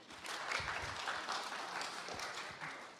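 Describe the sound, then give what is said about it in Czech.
Steady audience applause fills the whole stretch, a dense crackle of many hands clapping at an even, sustained level with no voices over it. “To je taky hodno potlesku, tedy opravdu.”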